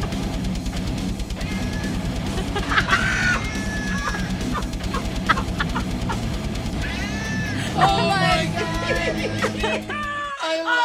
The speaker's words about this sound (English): Lame-ass cat band!